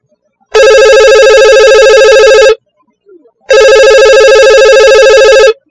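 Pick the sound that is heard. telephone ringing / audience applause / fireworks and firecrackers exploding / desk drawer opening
telephone ringing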